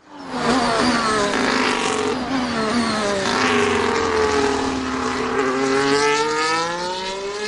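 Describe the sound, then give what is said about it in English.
A Formula One car screams along the track, its high-pitched engine whine dipping and climbing through gear changes. The roar stays loud and steady for several seconds, with no voices. “The Williams Formula One team used to be a giant of the sport.”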